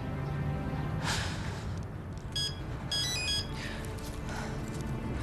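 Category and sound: signal or alarm, telephone ringing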